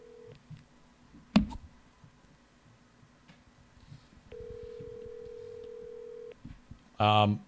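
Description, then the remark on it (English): Phone-line tones of a call to a country-cooking restaurant: a short beep and a sharp click, then a steady ringing tone held for about two seconds, followed by a brief burst of a voice picking up at the end. “If this doesn't work, I'll make various phone calls when I'm not podcasting.”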